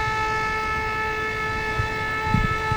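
A loud, steady horn blast at the Army Corps of Engineers-operated Brandon Road Lock on the Des Plaines River near Joliet, as a barge and its tugboat prepare to enter a gate moving upstream toward Chicago. One continuous tone with bright harmonics over a low rumbling engine and a few soft knocks.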